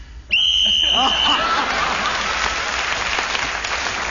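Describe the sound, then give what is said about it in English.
A single long, shrill referee whistle blast marking the end of a round on a radio panel game, as Clement Freud speaks on the subject Moving House, sounds for about a second, followed immediately by loud, sustained applause from an audience. “Right, so Clement Freud speaking as a whistle end, gained an extra point for doing so.”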